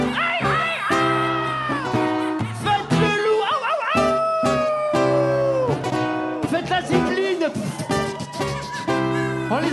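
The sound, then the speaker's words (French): A person imitates a dog, howling and yipping in drawn-out, wavering vocal tones with short barks between them, loud, over a rhythmic musical backing. “sortir l'animal qui est en vous. Faites le chien.”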